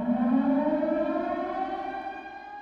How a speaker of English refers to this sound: Or a siren alerting people of danger.